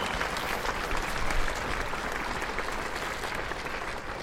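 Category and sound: crowd, crowd applauding and cheering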